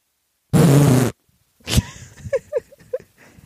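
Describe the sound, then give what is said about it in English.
A loud, half-second dragon fart sound effect from the Alexa Extreme Fart Pack: a raspy, growling blast with a deep buzzing rumble. A sharp thump follows, then soft scattered vocal murmurs. “And what does a dragon fart sound like?”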